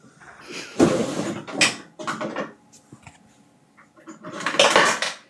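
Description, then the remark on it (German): Small hard fidget toys clatter and rattle against each other as someone rummages through a drawer full of them, several loud jostling bursts with brief pauses between, with no talking. “Das ist Fidget-Toy. Ja, ich habe eine ganze Schublade hier.”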